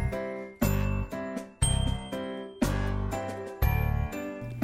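Bell-like carillon tones play a melody, each chime struck clearly with sustained ringing overtones, notes arriving in a steady rhythmic sequence, fairly close and moderately loud, with no voices.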